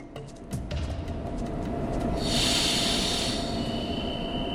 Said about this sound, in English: This is the central railway station in The Hague, less than an hour's train ride south from Amsterdam, Holland.